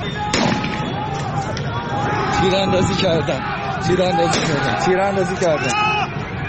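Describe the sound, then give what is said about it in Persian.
Several sharp gunshot-like bangs crack out at irregular intervals as riot forces fire on protesters, over a crowd shouting and screaming, the reports loud amid the chaotic commotion of people running. “تیراندازی کردن”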